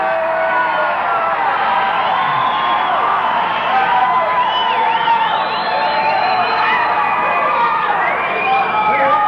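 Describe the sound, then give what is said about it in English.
An audience in Miami yells and cheers continuously at a show broadcast on the radio, a dense roar of many voices with scattered higher whoops rising and falling over the top, loud and steady throughout. “if you wish to identify your yell, do so now.”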